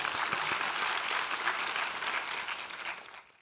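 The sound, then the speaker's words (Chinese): An audience applauds itself, a dense, steady wash of many hands clapping together that holds evenly for about three seconds before thinning out and fading away at the end. “哈利路亚，为你们自己鼓掌一下。”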